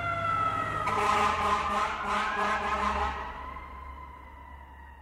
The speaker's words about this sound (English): You hear a siren and look up. A fire truck's pushing through traffic